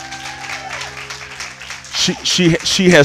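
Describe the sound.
An audience applauds with a dense, steady crackle of clapping, joined by louder voices calling out over it in the final second.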